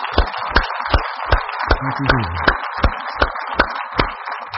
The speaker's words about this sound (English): Men that have served and women that have served. Let's give them a hand clap, folks. Here we go.